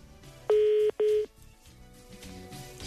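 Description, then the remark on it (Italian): Two loud, steady telephone keypad tones sound in quick succession, the second slightly shorter, against a low background murmur, as buttons are pressed during a phone call. “che stai combinando con quei pulsanti?”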